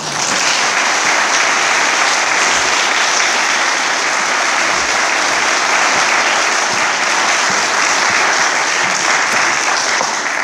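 An audience claps steadily for about ten seconds, a dense, loud wash of many hands with no pauses and no voices rising above it.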